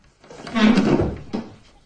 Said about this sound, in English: The door closes and Mr. Bennet reluctantly leaves by another way.